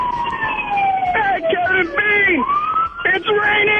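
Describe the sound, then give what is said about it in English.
A police car siren wails loudly, its pitch sweeping up and down in steady, continuous cycles with a few abrupt shifts between tones. “Well, look, you're just not going fast enough if you could still hear the police sirens.”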